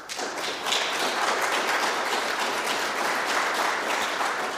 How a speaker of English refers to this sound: And we really appreciate those sort of things. So we thank them for that, for who they are and for their commitment to our church. We need to applaud.